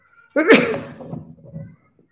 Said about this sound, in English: Sorry about that. It's the worst thing to sneeze and cough on a microphone. Everyone hears it.